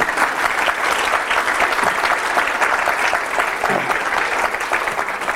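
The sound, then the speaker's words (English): An audience claps steadily and loudly for several seconds, a dense, even wash of many hands with no break in the sound, applauding a reading of a Kipling poem. “You have to applaud that, I think.”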